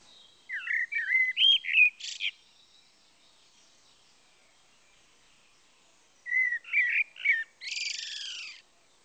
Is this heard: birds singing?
yes